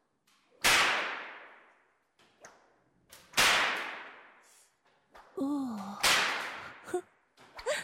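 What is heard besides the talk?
whip lashes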